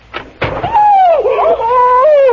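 A door is flung open with two quick, loud thuds, hitting a woman standing right outside it, and she lets out a long, wavering, high-pitched cry after being struck on the nose.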